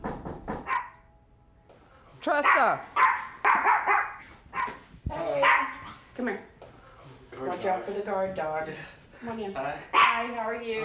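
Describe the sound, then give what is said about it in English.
A guard dog barks in sharp bursts at the front door of a suburban house, a few loud yaps scattered over several seconds, while a person calls out and talks. “watch out for the guard dog.”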